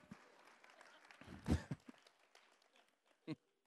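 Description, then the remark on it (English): An audience claps in scattered, fairly quiet applause that swells in a brief louder burst partway through, then thins out, with one sharp clap-like hit near the end. “You can clap there. That's fantastic.”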